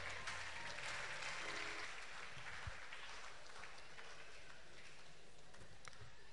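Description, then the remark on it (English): A church audience applauds steadily for several seconds, clapping for the word squad who come up to give scripture passages, a dense, continuous patter of many hands clapping at an even level throughout, with no voices standing out. “Are you clapping for them?”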